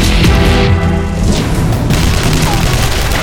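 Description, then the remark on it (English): A loud explosion of a Soviet aircraft, a heavy booming blast that rolls into a deep, sustained rumble with crackling debris for several seconds, with no voices. “The chin bubble of Kuranami's helicopter smudged suddenly black with the explosion of the Soviet craft”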